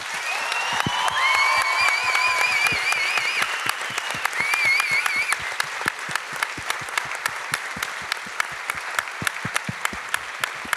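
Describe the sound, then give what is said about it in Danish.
An audience claps loudly and steadily for the sixth member of the judging panel, with whistles and cheers rising over the applause for the first few seconds before the clapping thins out into scattered sharp claps. “Venner, vil I ikke være søde og give et kæmpe stort bifald til dårligdommerne medlem nummer 6”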